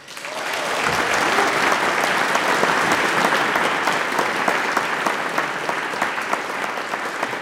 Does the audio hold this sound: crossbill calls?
no